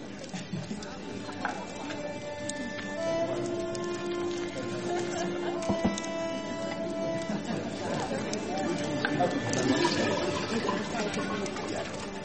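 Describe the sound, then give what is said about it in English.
Water splashes and pours steadily into water vessels being filled, a continuous wet rush over several seconds, with murmuring voices and a faint tonal hum in the background. “Gather the water vessels and fill them. Fill them. With water.”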